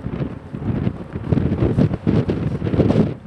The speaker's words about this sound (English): My journey starts on a windy day at the end of January at a port near the southern tip of Chile.